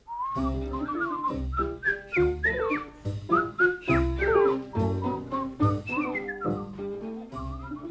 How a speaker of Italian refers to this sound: Anzi, per non dare nell'occhio, ce ne torniamo come tre vecchi amici, fischiettando.